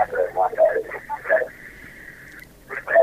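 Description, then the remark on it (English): A radio plays in the background of a caller's telephone line during a call-in program, thin and band-limited, with muffled voices, a steady held tone in the middle, then more voices returning at the end. “Can you turn the radio off or move away from it, please?”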